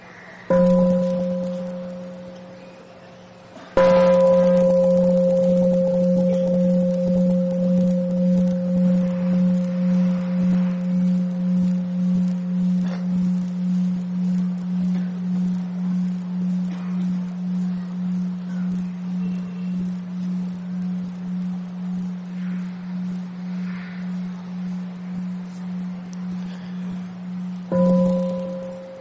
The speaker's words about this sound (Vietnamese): Đại chúng nghe tiếng chuông xin nhất tâm thực tập năm phép quán nguyện.